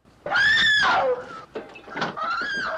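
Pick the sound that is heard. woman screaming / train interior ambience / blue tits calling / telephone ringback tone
woman screaming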